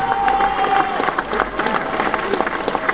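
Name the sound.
audience applause and cheering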